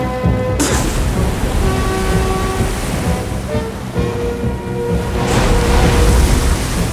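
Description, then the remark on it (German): Heavy rain pours over rough, surging sea waves, a dense, steady roar that swells slightly toward the end, with faint tonal hums running beneath the wash of water. “Der Seegang nahm immer mehr zu. Die Wolken konnten ihre Regenlast nicht mehr halten.”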